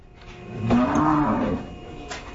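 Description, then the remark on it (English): A single cow lets out a long, loud moo lasting about a second, with a low rising-then-falling bellow, as it comes into a chute at a ranch in High Springs to be checked for pregnancy, followed by faint rustling and a brief metallic clank in the background. “So next cow coming into the chute now.”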